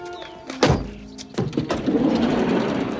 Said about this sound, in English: Wayne opens the van's side door.